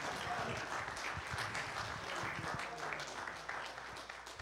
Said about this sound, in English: Oh, if you believe that, give God a good hand clap of praise.